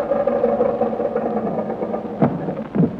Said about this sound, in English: Now let's take her down and tell the world we invented the aerial plane. Okay, take her down.